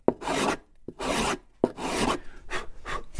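A hand plane shaving the top of an archtop guitar in about five quick, rasping strokes, each opening with a sharp bite and a brief pause between passes, planing it down to begin forming the arch. No one speaks.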